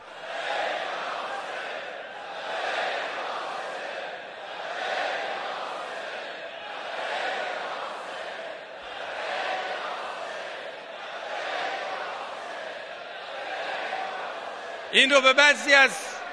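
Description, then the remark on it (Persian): A large crowd chants "Labbayk ya Hussein" together in unison, repeating it in a steady rhythmic cycle roughly every two seconds, loud and sustained, ending with a brief burst of higher-pitched cries. “همه با هم در این زمان فریاد زدن لبیک یا حسین.”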